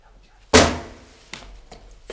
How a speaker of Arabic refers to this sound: شكون شكون اللي خبط؟